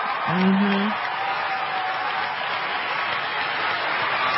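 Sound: applause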